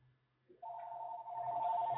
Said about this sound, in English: You know, I'm going to answer this phone call.